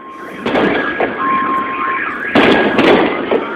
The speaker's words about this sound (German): Überall heulten unter dem Krach der Detonationen auch die Alarmanlagen der herumstehenden Autos los.